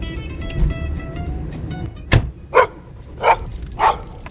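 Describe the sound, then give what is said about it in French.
A dog at a plant nursery farm in Beaufort-en-Vallée, near Angers, barks four times in quick, uneven succession, fairly loud, following a couple of seconds of low engine rumble from an idling vehicle. “Ça me rassure quand même, il y a un chien comme dans les vraies fermes.”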